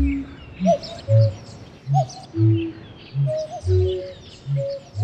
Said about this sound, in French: Coucou! C'est seulement bébé coucou qui, jouant les invités surprises, crève sa coquille de l'intérieur et s'en extrait péniblement à la stupéfaction générale. Coucou!